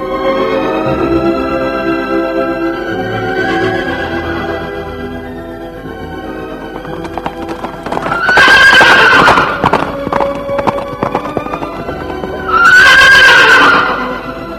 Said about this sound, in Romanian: Calul zbura ca năluca peste munți și văi.